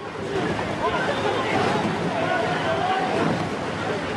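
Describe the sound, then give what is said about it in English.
Oars splash in the water during the 2008 Beijing rowing event, mixed into a steady wash of crowd hubbub and indistinct voices that stays loud throughout. “Okay, you actually hear the sounds of the oars in the water, that rowing sound.”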